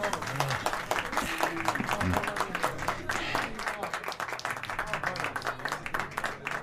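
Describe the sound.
Sustained audience applause for a doctor's father and mother, dense overlapping clapping from a crowd at steady volume, with faint voices murmuring underneath.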